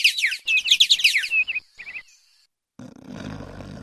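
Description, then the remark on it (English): Birds sing in a bright, rapid, loud burst of twittering chirps for about two seconds. After a short silence, a low rumbling background noise begins. “The birds are singing.”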